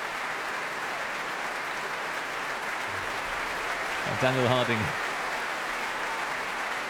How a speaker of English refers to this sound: Well, here he is back at the front of the stage here at the Royal Albert Hall. Cheers from the audience. Applause, tapping of bows from the members of the Mahler Chamber Orchestra.